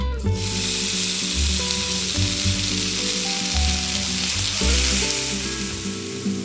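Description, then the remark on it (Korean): A steady, loud crackling sizzle of a kimchi pancake (kimchi, flour, water and egg batter) frying crisp in oil in a frying pan over medium heat, continuous throughout, with a low background hum underneath and no talking. “중불로 프라이팬을 달군 후 기름을 두르고 바삭하게 익혀낸다.”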